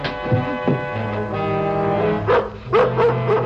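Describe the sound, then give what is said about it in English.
A dog barks in short, sharp bursts: a couple of early yaps, then a quick run of three or four barks near the end, all over a steady humming background. “You gonna shell out, or do I have to beat the dog's head in?”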